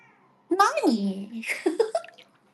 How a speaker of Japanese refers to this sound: めっちゃお風呂の近くまで来てニャーニャーされた。